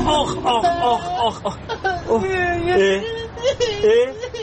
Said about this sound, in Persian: این بچه کی داره گریه میکنه؟ ابا چیه عمو جون، چرا گریه میکنی شما؟